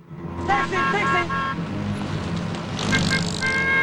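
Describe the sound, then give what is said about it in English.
A car engine rumbles steadily amid busy street traffic as a brown coupe tries to turn right and has to wait for traffic, with short horn toots near the start and again toward the end over a constant roar of passing vehicles. “The brown coupe tries to turn right and has to wait for traffic.”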